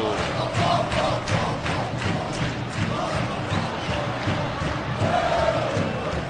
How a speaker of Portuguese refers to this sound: Sinto o clima da fiel torcida corintiana. Vem pro Mineirão comigo.